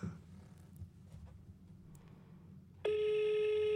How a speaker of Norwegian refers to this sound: Da skal vi se om Kristin Husøy svarer når jeg ringer henne.